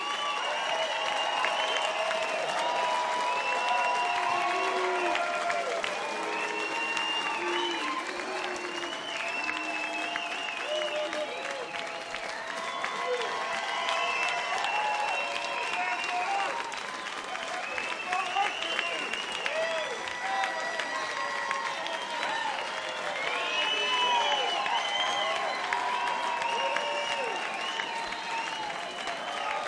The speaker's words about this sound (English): It's a wonderful, silly little ritual we do, isn't it? You know, we play and you clap and stand up sometimes, and we go off and we come back on.